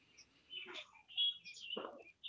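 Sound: small birds chirping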